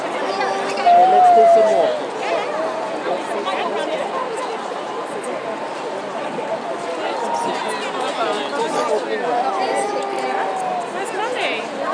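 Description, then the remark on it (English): A dense, steady babble of a big crowd, many voices talking at once, a continuous murmur with no single voice standing out, plus a brief brighter voice rising above the hubbub near the start. Heard from about 10 to 15 people back from the front of the crowd. “So it was a pretty big crowd, but there were plenty behind me as well.”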